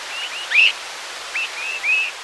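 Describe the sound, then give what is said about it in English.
Swainson's thrushes give short, thin, high whistled calls in night flight, some rising sharply, about five in quick irregular succession over a steady background hiss. “Swainson's thrushes are calling to one another while flying at night.”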